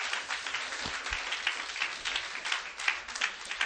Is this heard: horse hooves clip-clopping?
no